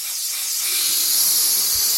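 A helium machine inflating balloons at the back of a tiny, crowded office supply store, 7th Avenue Office Supply in Brooklyn: a steady, loud, high-pitched hiss of rushing gas that holds without a break for two seconds, with no voices.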